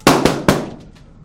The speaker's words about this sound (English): Oh, can I borrow your pen? Yeah. Max stabs balloons.